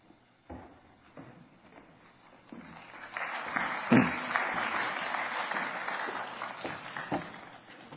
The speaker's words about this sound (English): Good morning. Thank you for applauding for James. Seriously, thank you, James, for reading this long passage.